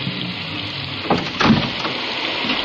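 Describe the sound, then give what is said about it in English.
Heavy rain pours in a steady, dense hiss, with a couple of brief louder splashes rising out of the wash partway through. No voices are heard. “I never did like rain.”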